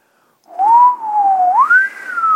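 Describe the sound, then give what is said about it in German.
A person whistles a single sustained, wavering tone that drifts up and down in pitch, imitating the sound of wind, loud and alone with no talking. “Also das war mein persönlicher Versuch, Wind darzustellen.”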